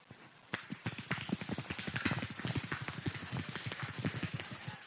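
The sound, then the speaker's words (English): Extremely fast hand clapping, a demonstration of how world records are set in clapping: a dense unbroken run of sharp, crisp claps starting after a short pause and continuing steadily to the end, loud and with no talking over it. “Does anyone know how world records are set in clapping? Can anybody demonstrate?”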